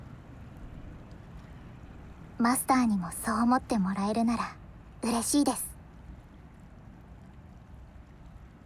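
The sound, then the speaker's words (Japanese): Steady seaside ambience along the Kanmon Strait line in Japan, a constant low, rushing wash of water and wind that runs unchanged from start to finish, with a woman's voice speaking briefly partway through. “ここならバッチリ関門海峡線沿線の音ですよね。”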